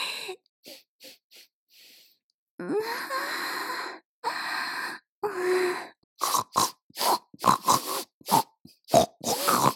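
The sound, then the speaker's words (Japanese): A human voice imitates a pig: a few soft short grunts, then two long rasping snorts, followed by a fast, choppy run of loud grunts and squeals. “ああ、チンカスの匂いやばすぎて豚泣きしちゃった。”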